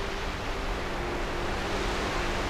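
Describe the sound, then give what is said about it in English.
Steady, rushing roar of incoming tide waves breaking against rocks on a seashore on a warm late-summer day, a continuous wash of surf with no distinct individual crashes, even in loudness throughout, with no voices. “The tide is coming in and crashing on the rocks.”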